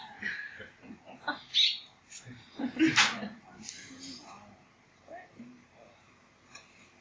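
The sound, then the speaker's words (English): Several short, sharp bird calls ring out in quick succession, loudest in the middle, then fade into quieter sounds with faint murmuring voices. “The birds come to hear the Dharma.”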